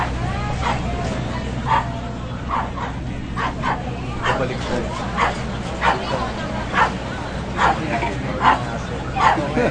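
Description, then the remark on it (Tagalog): Dogs bark and yip repeatedly in short, uneven bursts throughout, loud, while people talk in the background over a steady low hum. “Ang mga aso yung mamaya na.”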